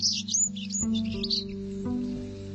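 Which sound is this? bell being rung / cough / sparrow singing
sparrow singing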